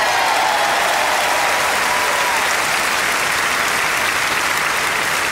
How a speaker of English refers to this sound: This is the biggest pipe band ever here on stage in Malta. Give them an enormous applause for making the difference. Malta Pipe Band!